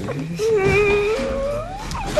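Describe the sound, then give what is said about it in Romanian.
A young woman cries in one long, wavering whimper that slowly rises in pitch, sobbing steadily over a faint background murmur, with no words spoken. “Lasă, lasă, nu mai plânge. Ștergeți ochișorii.”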